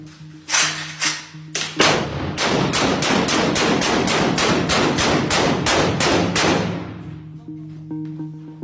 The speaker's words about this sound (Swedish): Han skjuter ett stort antal skott rakt in i en lägenhetsdörr. I videon som misstänks visa en av de senaste skjutningarna ser man hur patronhylsorna faller ner för trappan.